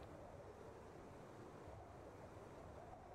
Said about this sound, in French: Le vent souffle et puis il fait vraiment froid.